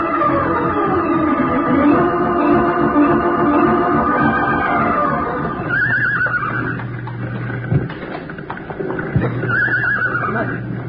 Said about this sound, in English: Horses over here. You can hear it. They're really scared. Watch it. Don't get near their hooves. No. They'll kick at anything they hear now.